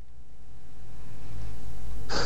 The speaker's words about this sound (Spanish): ya se te escucha un poquito tu respiración, así que estás.